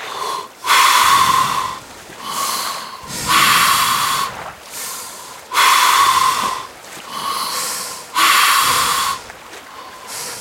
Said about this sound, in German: Jetzt den Storchel in den Mund nehmen. Und zwischen den Zähnen das andere Ende nach oben. Und jetzt atmen wir tief und ruhig durch den Mund ein und aus.